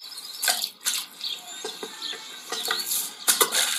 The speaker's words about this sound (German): Ein Stein ins Wasser werfen, na gut.